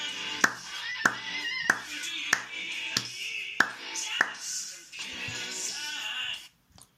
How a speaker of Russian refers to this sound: Хорошо, сейчас мы научились хлопать в ритм песни.